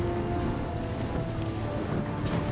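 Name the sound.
heavy rain falling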